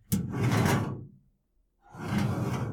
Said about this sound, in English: And I opened my toy drawer, which I'll do for you now, like this.